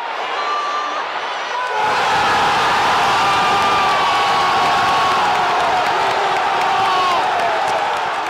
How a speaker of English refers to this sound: Incredible reaction there from the San Siro crowd. Seydorf with a lob pass over, which Inzaghi chests down, and then he curls his half volley past the Novara keeper, and the club go into meltdown at the stadium and in the studios.